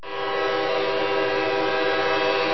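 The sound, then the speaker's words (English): A train approaching a railroad crossing sounds its horn in one long, steady blast that swells in quickly and holds loud for a few seconds, with no voices present. “You know, you can be issued a hefty ticket for being caught on a railroad crossing when a train's approaching.”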